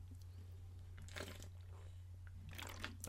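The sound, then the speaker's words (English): A Poland Spring plastic water bottle crinkles and crackles in two short bursts while someone drinks water from it, over a steady low hum with no talking. “Had to get some water in there. Just great water. Nice little Poland Springs, you know.”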